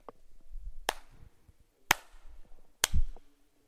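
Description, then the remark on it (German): Three sharp hand claps made as an acoustic test in a large hall, spaced about a second apart, each ringing out with a lingering echo that fades slowly. “Hast du mal gehört, wie lange der nachhallt?”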